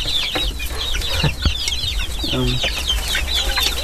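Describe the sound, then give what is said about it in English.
Chickens, including a big Americana, clucking in a busy coop, with many overlapping chirpy calls and short low clucks, a steady flock murmur filling the background. “There's a really big one in here, a big Americana.”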